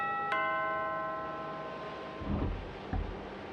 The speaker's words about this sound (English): Well, no, there's a doorbell. I'm going to use the doorbell.